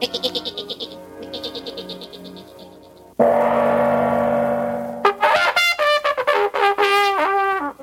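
A voice bleating like a lamb in quavering, vibrato bursts, first in a short run, then after a steady sustained tone, a fast string of loud, wavering bleats.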